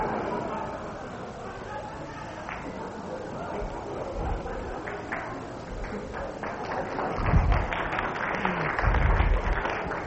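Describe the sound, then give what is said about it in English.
A crowd claps in a steady, moderate patter for about ten seconds with a murmur of voices underneath. A couple of louder low thumps stand out near the end. “Thank you for the jaded applause.”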